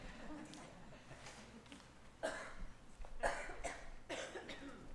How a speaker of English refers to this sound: Guys, mute me. I'm going to blow my nose one time, okay?